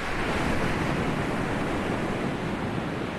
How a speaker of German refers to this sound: Es ist so viel Strömung, weil einfach die Wellen schieben so viel Wasser hier auf den Strand, das irgendwo hin abfließen muss.